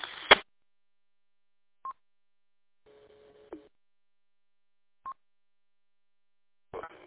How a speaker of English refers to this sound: You also have a Roger beep on your signal. If you could turn that off, we'd really appreciate it.